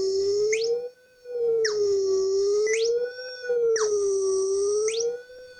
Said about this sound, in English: So let's listen to the sonification of the sine wave again,